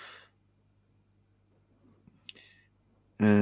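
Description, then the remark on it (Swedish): A single crisp, fairly soft computer mouse click, with a faint breath before it and a voice starting to speak right at the end. “Jag klickar in.”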